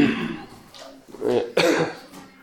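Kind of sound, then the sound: human body sound, coughing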